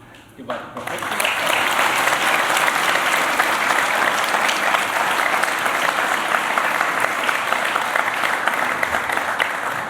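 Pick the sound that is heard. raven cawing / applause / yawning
applause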